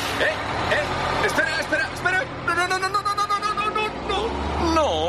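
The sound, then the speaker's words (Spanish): A city bus rumbles low as it pulls away, with a hiss of air brakes, while people's voices and chatter carry over the engine noise. “Esa cara que se te queda al perder el autobús por unos segunditos de nada”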